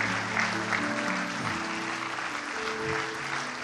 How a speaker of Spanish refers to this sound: Gloria a Dios por estas vidas. Damos un aplauso al Señor por estas vidas. Un aplauso al Señor.